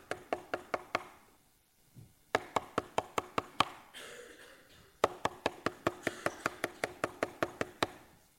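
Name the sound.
knocking on a door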